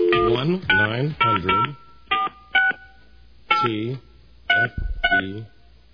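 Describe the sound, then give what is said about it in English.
A touch-tone phone number for a 1-900 phone sex line is dialed, a quick series of short, clear beeping tones in an uneven rhythm, fairly loud, interleaved with bursts of voice. “It's the best we've ever called. Hold on a second.”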